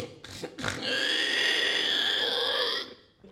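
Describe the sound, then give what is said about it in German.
A person imitates a pig: two quick snorting grunts, then a long, loud, strained squeal that holds for about two seconds before cutting off. “Da macht man so ein Schweinegeräusch und das ist dann so.”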